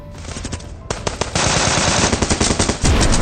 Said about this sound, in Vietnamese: Bỗng nhiên những tiếng nổ đinh tai của súng máy vang lên.